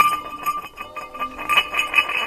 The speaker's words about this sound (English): But it seems like in sound effects libraries, all the crashing sounds involve either metal or glass. I really like this one labeled hubcap.